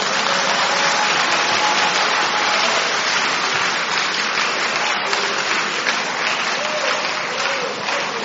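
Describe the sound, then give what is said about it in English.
Loud, sustained applause from a large audience, a dense wash of many hands clapping at once that holds steady for several seconds with no clear rhythm or break. “If it's him, then clap well.”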